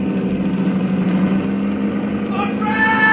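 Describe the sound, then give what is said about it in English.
A car engine races with a loud, continuous roar during a chase down a cobblestone street laced with track near railroad yards, its low drone steady throughout before climbing in pitch toward the end as it revs harder. “Golovin was closing on me fast”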